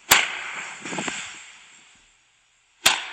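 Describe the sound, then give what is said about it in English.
Two sharp, loud whacks of a long pole striking a stand-up kickboxing bag outdoors, spaced nearly three seconds apart, each with a brief ringing echo fading. “he was outside beating the crap out of it with this long pole of some sort”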